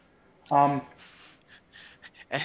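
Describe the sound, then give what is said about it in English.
A loud voice lets out a short, dramatic voiced gasp imitating the Japanese Spider-Man's surprise, followed by a few softer breathy intakes and rustling breaths. “And for effect, Japanese Spider-Man gasps.”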